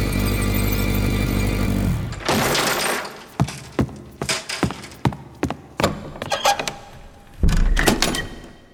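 door being opened

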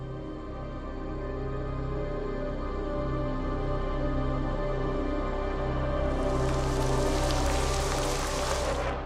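water pouring down

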